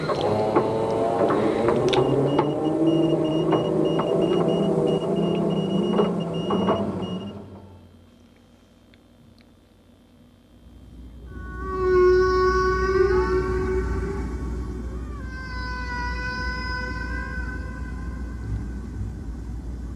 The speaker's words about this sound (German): Ihr hört dazu ein paar Walklänge, aufgenommen aus 500 Meter Tiefe.